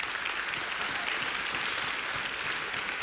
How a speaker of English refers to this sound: And it's in God's sovereignty that He chose to bless this country with the thing called freedom. So we can clap at that.